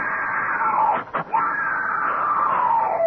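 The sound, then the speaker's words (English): A woman who has just awakened in a harem screams loudly and continuously, her high, strained cry breaking off for a brief instant in the middle before surging on for several seconds. “She's awake. Don't let her scream.”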